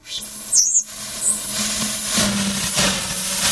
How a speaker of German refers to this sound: Es zischt und rauscht, wenn der erst 33-jährige Quantenphysiker Dominik Zumbühl seinen Kühlschrank in Betrieb nimmt